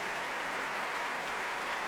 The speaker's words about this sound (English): Well, this great cheer for the chorus masters.